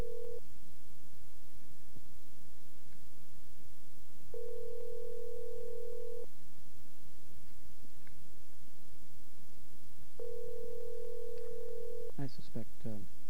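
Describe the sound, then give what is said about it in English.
A telephone line rings back with steady two-second electronic tones separated by long pauses, three bursts in all, followed by a quick cluster of clicks as the line seems to pick up. “We're ringing.”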